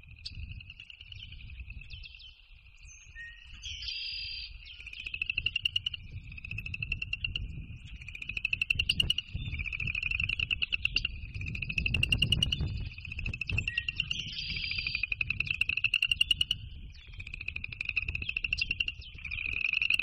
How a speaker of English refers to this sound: I introduce the piece, the whole show, with a recording of a real frog pond.